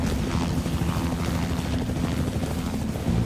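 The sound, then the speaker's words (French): A steady, loud coast guard helicopter drone with a deep rumbling low end and rapid rotor chop, continuous as it flies over a river in support of a police dive team, with no voices present. “Venir en renfort à l'équipe de plongée de la police, un hélicoptère de la garde côtière survole la rivière.”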